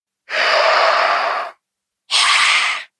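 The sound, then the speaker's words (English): A reindeer calf grunts twice in a breathy, raspy, hiss-like way. The first grunt lasts over a second, then after a short pause comes a briefer second one, with no talking. “Another calf grunting.”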